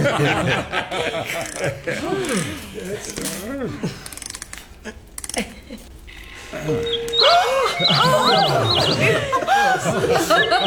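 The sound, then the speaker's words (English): People talk and laugh, then an exotic caged bird from India breaks into bright, rapid chirping and trills, its quick high notes repeating over the voices. “It's from India, sir. It's an exotic bird.”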